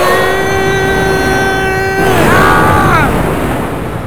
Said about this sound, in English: The Mastodon is struck with the same missile blasts, the robotic beast crying as it topples over onto its side from the force of the explosion.